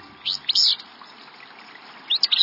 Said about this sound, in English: We're walking along a stream, and we hear what sounds like a sneeze in a dense thicket. Should we reach for binoculars? Or maybe a handkerchief? This sneezy song belongs to a willow flycatcher, a small gray-green bird singing from atop a nearby shrub